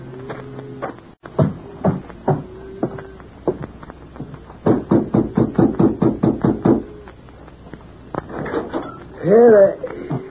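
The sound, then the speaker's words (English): Loud knocking on the wooden door of the Adams Ranch House: a few scattered raps, then a rapid run of a dozen or so sharp knocks in quick rhythm, with brief voice sounds at the start and end. “Lots of knocking at the door.”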